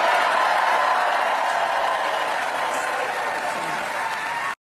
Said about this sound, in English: A lot of applause.